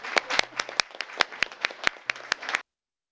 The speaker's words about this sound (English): And I think maybe we would like to give her a round of applause.